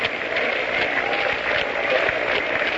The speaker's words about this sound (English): The crowd is beginning a sort of a half-hearted hand clapping.